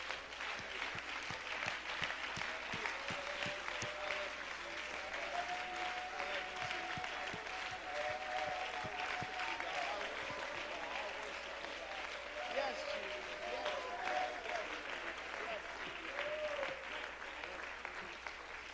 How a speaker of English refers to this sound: Why don't you give God a hand clap of praise?